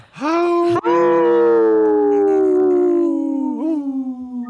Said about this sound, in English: He's not even howling. Yeah, that was a wheezing howl. Rugged old wolf.